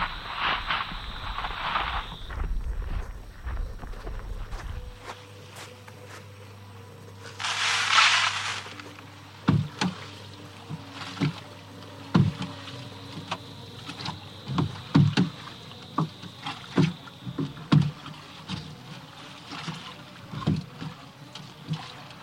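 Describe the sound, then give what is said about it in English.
A small boat being rowed across water, oars knocking and splashing in a steady rhythm of strokes, after a brief rush of water noise near the start. No one speaks. “Where's the boat? Over there, just past the trees.”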